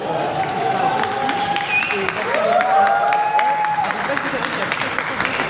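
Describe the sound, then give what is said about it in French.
A crowd of Socialist Party activists and allies on upper floors erupts in joyful screaming and cheering as Emmanuel Grégoire is declared winner of the Paris election, with long high-pitched shrieks rising over a dense, steady roar of voices and clapping that stays loud for the whole stretch. “Donc il est 20h47, on vient d'entendre des hurlements de joie venir des étages où sont les militants socialistes, donc c'est officiel, Emmanuel Grégoire a remporté l'élection à Paris.”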